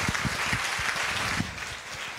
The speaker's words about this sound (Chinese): 再次拍手